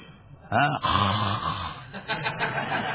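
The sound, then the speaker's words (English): A man's voice imitates people snoring while supposedly meditating with their eyes closed, with a couple of drawn-out, rumbling nasal breaths, fairly loud, followed by quieter murmuring. “They close their eyes, and I do not know what they are meditating, but I have seen they are snoring.”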